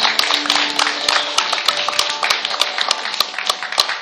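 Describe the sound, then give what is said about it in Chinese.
A church audience applauds young people in the audience, many hands clapping at once in a dense, crackling wash with sharper individual claps poking through, sustained for the whole stretch with no voices over it. “最后，请大家，我们给他们一点掌声，让他们愿意站起来，好不要怕。”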